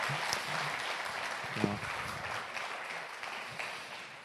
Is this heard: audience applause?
yes